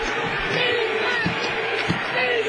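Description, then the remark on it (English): A basketball arena crowd cheers in a loud, steady roar of many voices, with a couple of dull thumps breaking through the wash of noise, after a layup puts Bill Platt ahead 11-7. “Listen to this crowd.”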